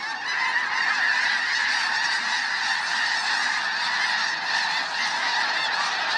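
A huge, whirling flock of about 1,000 snow geese calls all at once in the air, a dense, continuous wall of overlapping honks and yelps building to a crescendo and staying loud throughout, with no voices.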